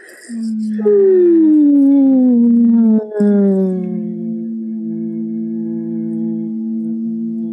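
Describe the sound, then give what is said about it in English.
Several voices hum a gentle, sustained low note together while gently squeezing their arms, body, legs and core; one pitch slides downward early on before settling alongside the others, and the hum carries on steadily without a break. “and while you're humming, we're going to be humming”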